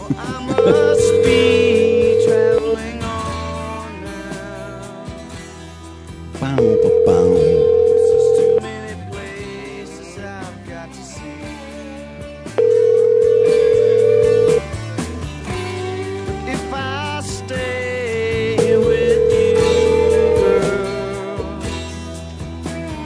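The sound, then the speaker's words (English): An outgoing phone call rings unanswered: four steady ringback tones, each about two seconds long and spaced several seconds apart, sounding over a bed of background music. “Pick up the fucking phone.”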